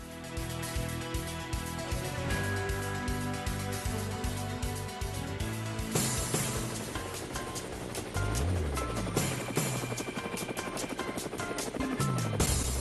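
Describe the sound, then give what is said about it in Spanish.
A helicopter's rotor blades thump steadily and loudly, a continuous rhythmic chopping mixed with a dense engine roar that stays constant throughout. “Bueno, ahí llegó las aspas del helicóptero.”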